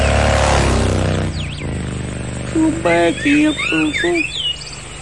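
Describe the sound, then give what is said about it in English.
Birds sing in a series of short, sweeping chirps and trills, clear, mixed with vocal sounds after a brief burst of broad noise at the start. “The birds were singing and the sun was shining.”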